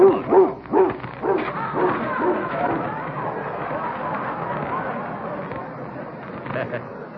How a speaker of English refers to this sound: Quite a dog.